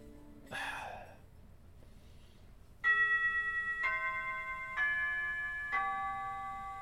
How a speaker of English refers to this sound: Oh, that chime means homeroom is starting.